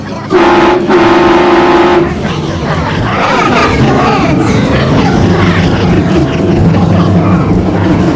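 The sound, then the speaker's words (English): A loud train horn sounds one sustained blast of about two seconds, followed by a busy wash of background noise with indistinct voices mixed in. “Oh, there's a train horn.”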